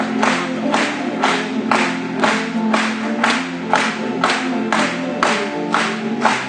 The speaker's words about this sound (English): Let's clap and join.